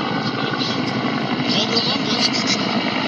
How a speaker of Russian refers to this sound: В час 18. В небе над Анкарой летают самолеты, вертолеты. Значит, это видео в час 23 из Анкары.